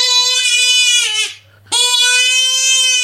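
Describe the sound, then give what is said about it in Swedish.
A hunting lure call that carries far and is easy to blow is sounded twice. It gives long, loud, wavering wails like a crying infant, with a brief gap between the two blasts and no talking. “Det är en som hörs lång och lättblåst.”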